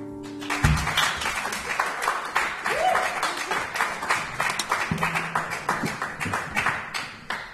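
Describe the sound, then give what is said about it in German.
A crowd bursts into sustained applause for two performers, dense overlapping claps at a steady loud level for several seconds, with a few faint tonal sounds and murmurs mixed in. “Grossartiger Applaus”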